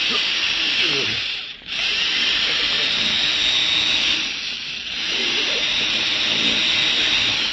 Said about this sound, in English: Do you think I've drilled into this vault deep enough now, Mr. Beecher?